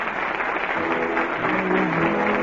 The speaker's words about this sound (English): The curtain on the last act of the night, and you play from the little theater off Times Square. Listen to that ovation. The audience liked it.